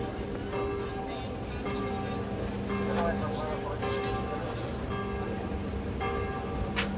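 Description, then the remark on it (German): The church bell of Friedland tolls to ring in an arriving transport of returning homecomers, in a slow, steady rhythm, about one stroke every second, with ringing overtones lingering between strikes over a constant low background rumble. “Und eben gerade beginnt die Glocke Friedlands, die schon bisher alle Heimkehrertransporte eingeläutet hat.”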